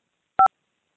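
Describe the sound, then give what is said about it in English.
Two quick touch-tone keypad beeps sound back to back, crisp and fairly loud, as a phone number is entered into a voicemail system's greeting menu, with no talking. “Please enter the phone number for the greeting you want to review or change, followed by the pound key.”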